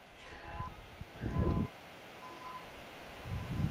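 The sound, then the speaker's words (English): A passing train rumbles low in two heavy swells during a baseball game, the fourth train of the game and sixth of the day, with faint, steady high tones drifting in and out over a wash of background noise. “That'll be our fourth train of the day.”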